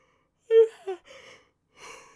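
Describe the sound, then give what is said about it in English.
A drawn-out yawn with a voiced, wavering onset that trails into breathy exhalation, followed by a short pause and a softer airy breath at the end. Nobody speaks. “You like this yawn fest that I'm going on?”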